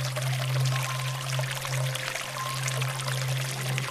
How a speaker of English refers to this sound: There is a strange breeze and the sound of water. Listen.